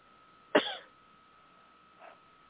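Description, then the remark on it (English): A woman with a chest cough she has had for the past couple of days coughs once, harsh, bursting out and fading quickly, followed about a second and a half later by a much softer cough, with a faint steady hum underneath and no talking. “We're eager to pray against coughs.”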